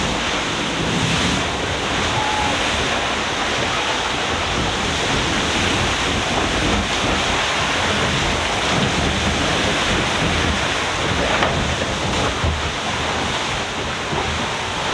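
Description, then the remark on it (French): Loud, continuous rush of water and wind aboard a sailboat as it slams into the waves, with waves slapping the hull and spray pouring off in a dense, unbroken roar. No voices. “ça claque, ça dégouline de flotte, ça tape dans la vague. J'aimerais bien te faire entendre la fontaine quand on tape dans la vague.”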